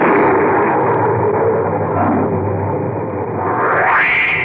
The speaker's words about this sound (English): Just then, there was a tremendous thunderclap, and the electric lights failed.